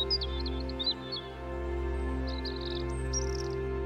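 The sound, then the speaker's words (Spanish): Small birds sing occasionally among trees in nature, chirping and trilling in short, scattered bursts, fairly faint, over a steady low hum of background tone; no one speaks. “Y escuchas el canto ocasional de los pájaros.”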